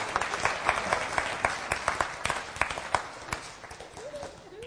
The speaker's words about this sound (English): Brilliant, eh? Give them a round of applause for doing that.